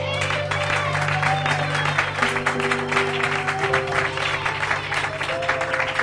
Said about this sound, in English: Lord a hand clap.